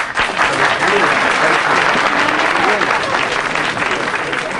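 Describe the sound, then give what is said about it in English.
Loud, sustained applause from a large crowd reacting to a speaker after her talk, a dense steady wash of clapping that holds at full strength for several seconds without letting up. “Fletcher, I have been a literary assistant with Speakers Incorporated for years, but I have never seen a crowd react to a speaker the way they do to you.”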